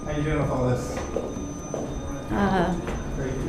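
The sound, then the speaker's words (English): A courthouse metal detector beeps at a doorway as people walk out, giving two tonal electronic bursts over echoing, shuffling movement and murmuring voices. “You can hear here the court's metal detector as we went out the door.”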